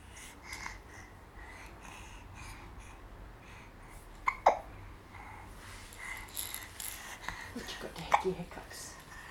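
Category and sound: human body sound, baby hiccups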